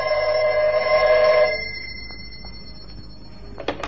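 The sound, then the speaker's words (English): A telephone bell in an office rings loudly and steadily for about a second and a half with a bright metallic jangle, then cuts off, leaving quiet room noise and a small clatter near the end. “I'd hardly time to look over the papers on my desk that had accumulated during my absence when the phone rang.”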